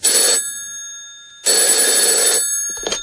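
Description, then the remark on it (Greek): A telephone bell rings loudly in two bursts, a short one and then a longer one after a pause, with a brief third burst starting at the end. There is no talking. “και τι ηχητικό αποτέλεσμα βγάζουν οι παρακολουθήσεις των γραφείων και των τηλεφώνων του ΣΥΡΙΖΑ και του Αλέξη Τσίπρα.”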